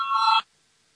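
A parliamentary voting bell, rung before a vote on a proposal by economics minister Nemiro, gives a single short, bright electronic ring, cutting off abruptly after less than half a second and leaving silence.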